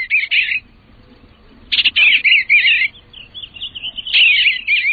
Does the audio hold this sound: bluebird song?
yes